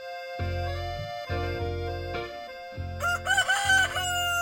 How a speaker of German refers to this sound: Und indem sie dann so gackert, weiß der Hahn, jetzt ist sie fertig und holt die Dame dann vom Nest ab.